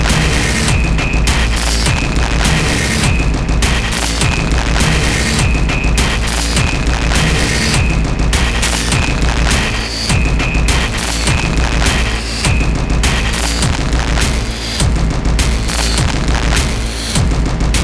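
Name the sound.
large bomb explosion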